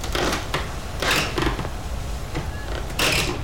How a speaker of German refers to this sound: Jetzt machen ein paar Feuerwehrleute die Haustür mit einer Stange kaputt. Wie Einbrecher. Sie müssen ja irgendwie ins Haus hinein, wenn sie das Feuer löschen wollen. Um die Tür aufzuhebeln, haben sie ein Brecheisen.